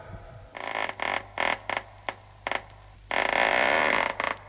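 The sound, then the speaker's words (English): A door creaks open in a series of loud, drawn-out groans, short squeaks broken by pauses, ending in one long sustained creak and a final brief squeal, with no voices over it. “I opened your door”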